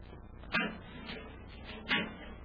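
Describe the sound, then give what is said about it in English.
A heavy metal door opens with two solid clanks about a second and a half apart. Each is sharp, over a low, steady background rumble. “metal door, Hap. Let's see if we can open it.”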